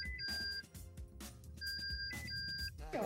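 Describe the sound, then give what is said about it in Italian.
A phone ringtone from a film plays: bright electronic beeping tones that jump between a high and a lower pitch, in two repeated bursts over a busy, steady background of other sound. “Allora te la facciamo sentire questa suoneria, che è questa l'incubo.”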